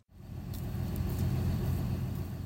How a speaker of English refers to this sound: The sun has yet to rise, and over 100 cars, trucks, and trailers sit idling in the county fairgrounds parking lot and down the neighboring street.